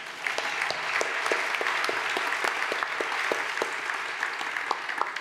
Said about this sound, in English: You can clap now.